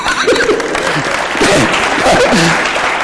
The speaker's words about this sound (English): I think we need to applaud that.